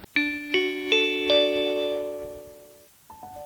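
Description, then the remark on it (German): A gong-like chime marking the end of the hour strikes four quick bright tones in succession, their ringing overtones blending and slowly fading over a couple of seconds before another tone begins at the very end. “Das war der Gong für das Ende dieser Stunde Bildungsblick.”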